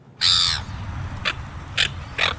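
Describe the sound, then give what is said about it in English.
A seagull calls out loud: one long, harsh squawk, then three shorter cries spaced about half a second apart, over a low rumbling background. “It's a seagull.”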